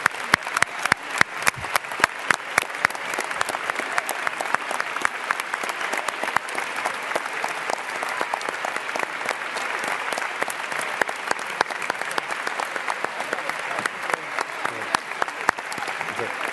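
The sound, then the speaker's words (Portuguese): An audience breaks into sustained applause for the teachers, a dense, steady wash of clapping with sharp individual claps standing out, loudest at the start and holding strong for over fifteen seconds. “E para eles uma grande salva de palmas.”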